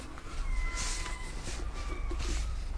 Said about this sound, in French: Là, on entend le silence de Douarnenez, ponctué par les cris des goélands.